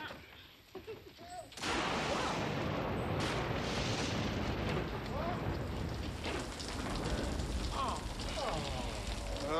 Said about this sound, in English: Uh-oh. Thunderstorm. Maybe it'll clear up.